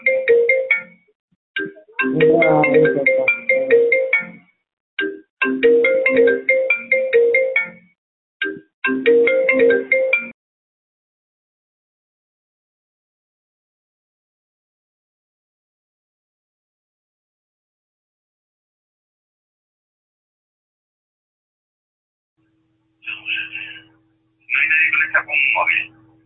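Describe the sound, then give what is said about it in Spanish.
A phone ringing tone heard over a call line repeats in loud electronic bursts over about ten seconds, falls silent for a long stretch, then sounds twice more near the end. “Se lo estaba diciendo yo, que si había alguien conectado con el móvil que cortara la llamada, pero es que seguía oyéndose y va, va, va, como si fuera una llamada en grande.”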